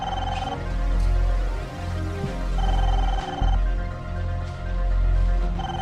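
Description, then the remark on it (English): A telephone on a table rings in short electronic bursts as a call is placed, three rings spaced a few seconds apart, steady and moderately loud over a low background rumble, with no one speaking. “LaDonna places a call.”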